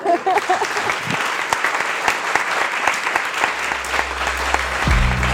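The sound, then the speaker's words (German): An audience at a literature event claps steadily for two guests, a dense wash of many hands applauding, sustained throughout with no talking, while a low tonal hum rises underneath toward the end. “Dann einen großen Applaus für Haruki Foster und Julie.”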